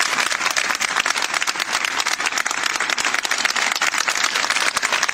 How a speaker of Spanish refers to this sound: Así que vamos a darle un fuerte aplauso a esas ausencias obligadas, lamentables.